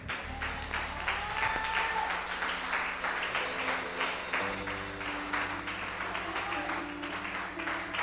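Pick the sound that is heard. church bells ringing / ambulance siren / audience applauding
audience applauding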